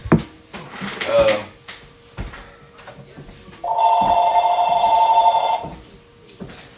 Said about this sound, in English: Stuff like this happens, y'all. You know, phones go off in the house.